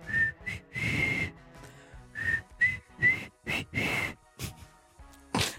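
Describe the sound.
Someone tries to whistle a tune live on radio, but most notes come out as breathy puffs of air, with only a few brief, thin whistled tones breaking through in a halting rhythm.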